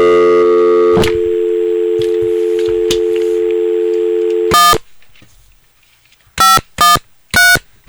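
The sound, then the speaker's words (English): A steady phone tone hums for several seconds, then a few short, loud electronic beeps follow in quick succession, like buttons being pressed on a telephone keypad, as a call is placed from WGH Radio to a guest. “I'm telling you, it's like the 90s every time you make a call on this phone.”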